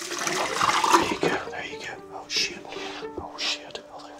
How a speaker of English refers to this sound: It's not only the fact that he is right now pouring potassium cyanide into a bucket in front of me that makes me wonder this.